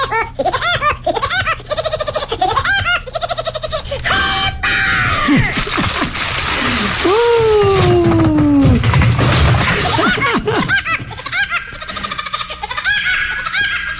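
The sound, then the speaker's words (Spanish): Woody Woodpecker's signature laugh call rings out in rapid, high-pitched staccato bursts over bright music, with shrieking, sliding cries and a crash in the middle of the loud, busy passage. “Ese pajarito que acaba de alegrar tus tímpanos fue mundialmente famoso.”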